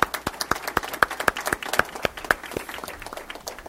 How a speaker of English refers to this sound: So on behalf of all of us, we thank you all out there. So thank you, and a round of applause for our nurses.